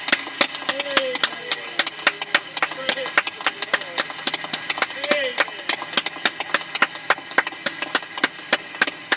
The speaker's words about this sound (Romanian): Oh, hai să dăm aplaudăm pe Domnul!